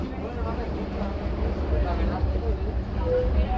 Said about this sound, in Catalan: Metro, línia 2, paral·lel Badalona, 3:15 de la tarda.